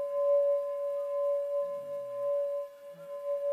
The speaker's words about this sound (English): So, to introduce a few sounds, this sound here, which features large in the song, is the sound of the sun.